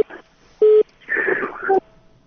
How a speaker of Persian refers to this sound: تلفن قطع شد. تماسم قطع شد، میتونن تا یک دقیقه دیگه هم بر ما زنگ بزنن.